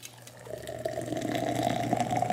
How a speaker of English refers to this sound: I could smell that the minute you started pouring it into the glass. It's this sweet, smoky, slightly tangy.